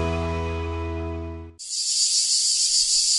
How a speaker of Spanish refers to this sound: El cant de la chicharra, música y desfici en UPV Radio.